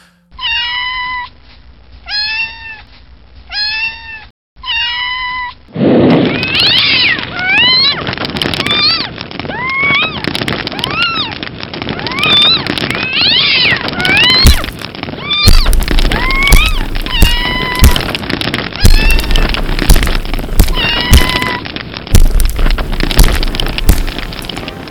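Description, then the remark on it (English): A small kitten meows and yowls insistently: four short high-pitched cries at first, then a dense run of overlapping, wavering wails over a crackly, noisy background. “There you go, the sound of a small kitten being set on fire and beaten to death with a hammer.”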